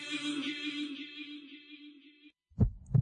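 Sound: heartbeat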